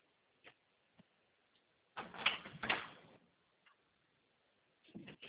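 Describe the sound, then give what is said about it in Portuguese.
Muffled rummaging and handling noises as someone fetches a pen: a couple of isolated clicks, then a busier burst of scraping and clattering, with more shuffling at the end. No one speaks. “Espera aí, deixa eu pegar uma caneta aqui.”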